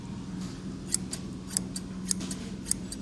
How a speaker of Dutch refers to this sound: Kijk eens, hier zie je hem. Ik zal hem even oppoetsen voor je. Dit is 1964, deze schaar.